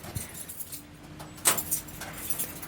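Keys jangle and clink in a short burst of bright metallic rattling, with a sharper chink partway through, over a low background hum and no talking.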